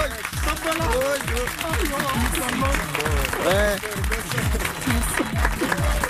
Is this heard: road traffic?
no